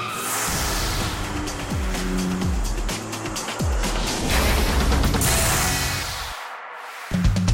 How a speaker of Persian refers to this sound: و حالا همه چیز با ظهور این ماشین یعنی آلفا رومئو 4C تغییر کرده. و خوشبختانه آلفا رومئو این ماشین وفادار به اصل رو برای ورود تازه به شبکه فروش در آمریکا انتخاب کرده. از هر چه بگذریم، این ماشین در رانندگی حرف آخر رو می‌زنه.